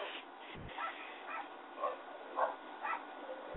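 dog barking next door

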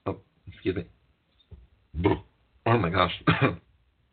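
burp

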